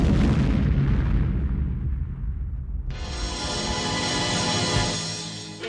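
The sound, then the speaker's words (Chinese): A loud hand grenade explosion booms at the start and rumbles away, then a sudden, sustained roaring hiss of debris and fire fills the rest, heavy, with no voices; the blast engulfs a man in fire and thick smoke. “手榴弹爆炸了，火光和浓烟瞬间笼罩了他。”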